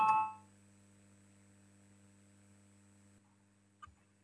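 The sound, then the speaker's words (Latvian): A voting bell in the Latvian parliament (Saeima) rings briefly at the start, calling a vote on an amendment, and quickly fades, leaving a steady low electrical hum, with a faint click near the end. “Lūdzu, zvanu, balsosim par 25.”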